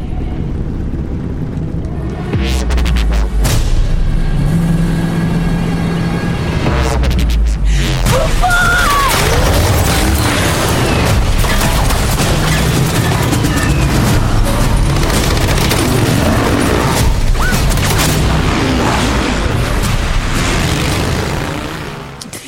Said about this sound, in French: Et là, ça pète dans tous les sens. Hein. Comme vous l'avez entendu, ça pète dans tous les sens.